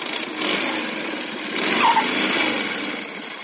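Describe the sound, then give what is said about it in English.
A motorcycle engine buzzes steadily, swelling louder midway with a brief high squeal like its newly fixed brakes as it comes to a stop, then easing slightly toward the end. No voices. “Ah, how do you like the way my cycle stops now that I've had the brakes fixed,”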